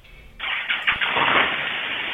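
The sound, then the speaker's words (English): A car engine cranks with a few quick starter bursts, then catches and settles into a steady, fairly loud running rumble, with no talking. “Oh, shit, he's getting in his car.”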